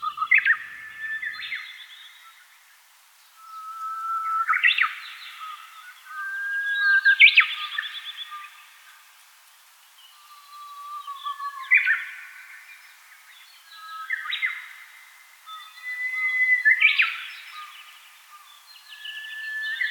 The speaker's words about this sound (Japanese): 今以上に冬の厳しさを感じ、春の到来を待ちに待っていたことをウグイスのさえずりに重ね合わせ、鳥と一緒に喜んでいるように感じます。